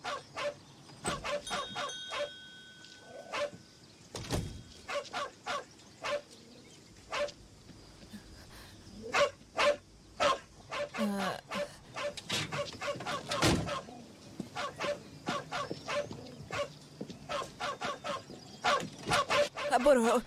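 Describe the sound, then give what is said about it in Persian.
A dog barks in sharp, repeated bursts inside a car at a gas station, with yips and whimpering between barks, while a person's voice comes and goes in the background. “سگتون تو ماشین منه.”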